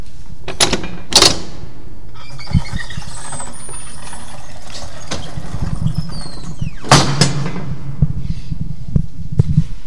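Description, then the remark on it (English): A heavy original tunnel door creaks and squeals as it swings open and closed, with metallic clanks and hollow thuds over a low rumbling background, ending in a loud slam followed by a few scattered knocks. The tunnel runs underneath 5th Street, connecting two office buildings. “So he built these tunnels, one of which we can access here, and it has some pretty good sound effects to go with this original door.”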